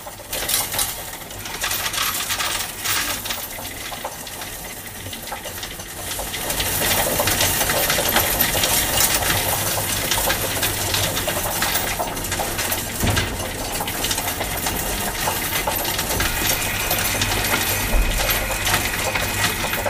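coins dropping and clinking

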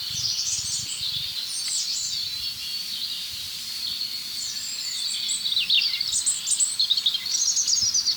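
european robin singing

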